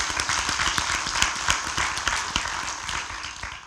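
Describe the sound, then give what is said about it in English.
A church crowd applauds steadily for a speaker who has just finished talking, many hands clapping in a dense, continuous patter with sharper individual claps poking through, fairly loud throughout and with no one speaking. “Let's give him another round of applause there.”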